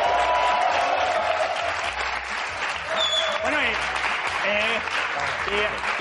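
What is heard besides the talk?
audience applause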